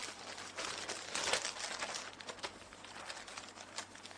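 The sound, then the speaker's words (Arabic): A large plastic bag, the first thing found in the shipping box of a device from the company Al-Natiq, crinkles and rustles steadily for several seconds as it is handled and opened, with irregular crackling bursts that swell briefly in the middle, and no one speaking. “أول شغلة اعترضتني بهالكرتونة هي كيس.”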